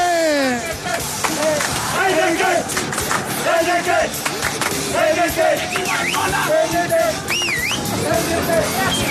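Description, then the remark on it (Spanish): A football fan section chants in steady, repeated bursts over a dense crowd roar, loud throughout, with a couple of shrill rising-and-falling whistles piercing through toward the end. “Así suena la barra, claro.”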